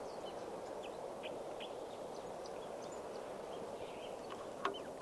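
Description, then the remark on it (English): A red male bird sings from a low branch right above the water hole at a scout camp, around 2:20 p.m., in short, scattered chirps against a steady wash of background noise, the notes fairly faint and spaced unevenly, with one sharper call near the end. “back at the scout camp, the water hole, and there's a bird right here, a red male, singing from a low branch right above the water hole.”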